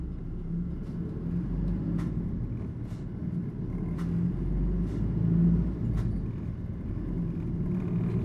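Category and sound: vehicle, bus engine rumbling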